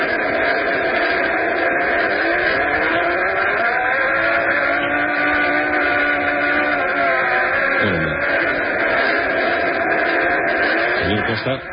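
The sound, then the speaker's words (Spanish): A simulated Martian ice flow, an ice collapse or crack as it might sound on Mars: a dense, steady rushing hiss with slow wavering tones gliding up and down, unbroken and fairly loud, with a muffled, band-limited character. “Ellos lo llaman ice flow.”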